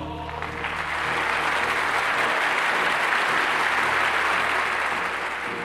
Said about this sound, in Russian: Бурный шквал аплодисментов речи Ленина прервал.